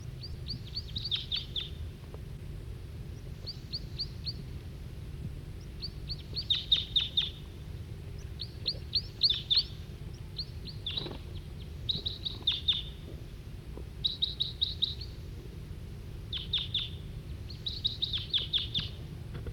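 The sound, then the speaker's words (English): A male wild bird sings in short, repeated bursts of high, rapid chirps every second or two, with occasional separate calls from other birds, over a steady low background hum. “Still pointing at the male who's giving song.”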